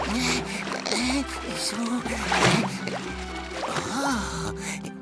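Warm spring water bubbles and splashes steadily, a continuous churning wash with brief vocal sighs or murmurs rising over it now and then as someone bathes in the spring.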